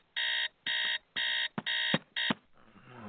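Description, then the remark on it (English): An alarm clock rings at 7 o'clock in five loud electronic beeps at a steady pulse, with a couple of knocks among the last beeps before it cuts off into soft rustling. “What time is it, man? Man, it's only 7 o'clock. Going back to sleep, man.”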